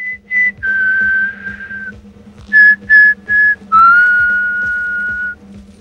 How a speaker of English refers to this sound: continues whistling.